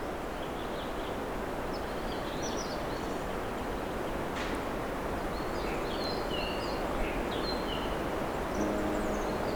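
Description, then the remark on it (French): Faint, scattered bird twitters and short whistles drift over a steady outdoor hiss, soft, with no voices present. “Un petit gazouillis, sifflement.”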